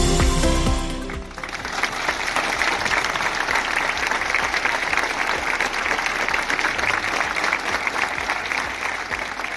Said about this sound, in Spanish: Este era el sentido aplauso de los vecinos de Porriño tras el minuto de silencio guardado por la trágica muerte de un niño de tan solo 2 años.